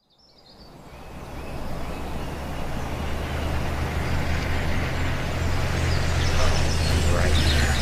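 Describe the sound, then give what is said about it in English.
A car approaches along a quiet village road in the morning, its engine rumble and tyre noise swelling quickly from nothing and holding loud, with a faint bird chirp at the very start. “Mind the car.”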